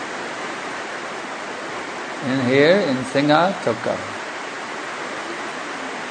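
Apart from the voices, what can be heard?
heavy rain falling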